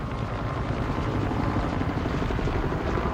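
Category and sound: vehicle, helicopter flying overhead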